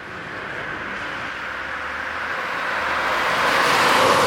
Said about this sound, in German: Kloster Fessra, Thüringen. Spärlicher Verkehr rollt über die Dorfstraße.